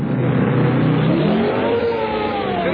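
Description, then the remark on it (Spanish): A car engine hums steadily, its pitch sweeping upward then easing off as the car rolls in and stops after its last lap, where a group of mechanics works on it. No voices. “Última vuelta, lo que hacemos mayormente cuando se detiene un automóvil.”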